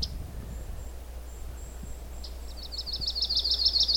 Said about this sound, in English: There. That was the yellow-rumped warbler's song. And it's pretty easy to pick out when there's nothing else singing around it.